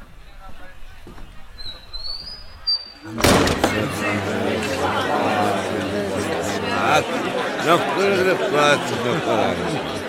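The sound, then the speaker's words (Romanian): A quiet stretch with a faint bird chirp gives way to a sudden thud, after which the murmuring chatter of a large crowd gathered in front of the praetorium swells in loudly and continues steadily to the end. “O mare mulțime de oameni s-a adunat în fața pretoriului.”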